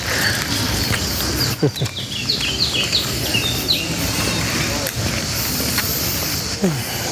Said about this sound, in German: Die sind aber auch lame hier, die Tauben. Also hier sind echt, hier in Italien sind echt Tauben. Wenn du schnell genug bist, kannst du die treten. Echt kicken. Ja, sehr faul.